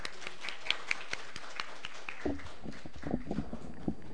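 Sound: audience applause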